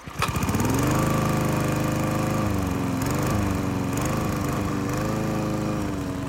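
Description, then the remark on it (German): A taxi's engine starts up and revs as it pulls away, then keeps a loud, steady drone whose pitch wavers slightly as the taxi speeds off around a corner. No voices. “Und schon saust das Taxi um die nächste Ecke.”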